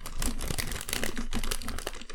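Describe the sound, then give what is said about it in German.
Crinkly plastic bag rustling, a dense run of crackles and crumples lasting a couple of seconds as someone takes a gummy bear out of the bag, with no talking. “Ich werde kurz mal rascheln, weil ich mir so ein Gummibärchen aus so einer Tüte hole.”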